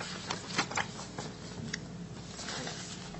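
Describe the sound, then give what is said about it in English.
Papers rustle and shuffle in a steady stream of crisp, irregular crackles for a few seconds, moderately quiet, as someone looks for the right sheet during a property assessment board hearing; no one speaks. “Wrong piece of paper here.”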